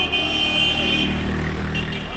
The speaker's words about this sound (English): They were honking their horns, shooting guns in the air in celebration, right?